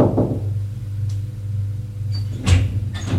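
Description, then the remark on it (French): A few separate knocks on the door of a first-floor salon, irregularly spaced, the last ones louder, over a steady low hum with no voices. “Frappe à la porte.”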